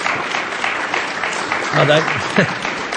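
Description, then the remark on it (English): Steady applause from a large audience fills the whole stretch, a dense wash of clapping with a few voices calling out briefly over it near the end. “I never got clapped.”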